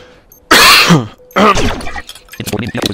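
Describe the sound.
Two loud, harsh coughs, each a rough voiced burst with a short pause between them, followed by someone beginning to speak.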